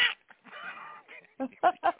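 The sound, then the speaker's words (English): Harsh, raspy crow-like squawking, fairly loud: a drawn-out grating call followed by a quick series of shorter, choppy squawks. “It's like a crow.”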